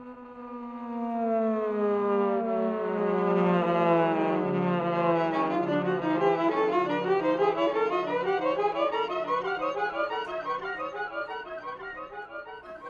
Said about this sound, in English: So I'm going to turn it on now, and one of the coolest things it can do is make an echo sound. So listen to how weird I can make the hammer sound now with an echo.